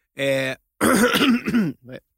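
Someone coughs and clears their throat in three harsh, voiced bursts: a short one, a longer rasping one, then a faint final hack. Nobody speaks.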